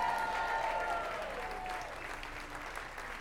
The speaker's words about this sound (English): Everybody, big round of applause for David from Houston, Texas.